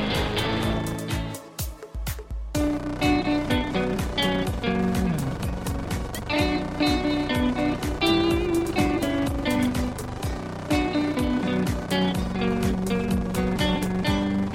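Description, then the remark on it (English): A loud, dense song with a gritty, sputtering motorbike-like revving sound running throughout, layered under rhythmic beats and sustained tones, with a brief drop in the music near the start. “So I actually wondered if I had gotten a bad MP3 or something, because there's like this farting motorbike sort of sound. It sounds like a motorbike's getting revved up throughout the entire song.”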